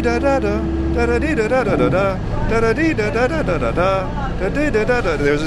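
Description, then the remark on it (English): Steady low engine rumble fills a bus interior, loudest at the start, while people talk continuously over the drone; a woman who had been talking to herself gets off the bus. “So there's a lady who was just talking to herself next to us. She's getting off the bus.”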